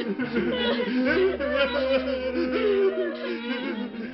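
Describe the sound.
Several voices wail and sob in long, wavering cries over low, mournful funeral music with a steady droning undertone, coming from a family's home and growing louder, continuous and fairly loud for the whole stretch.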